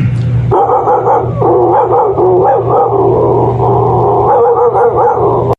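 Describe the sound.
A man's voice imitates a dog barking, a continuous run of loud, rapid barks and yips with a steady low hum underneath.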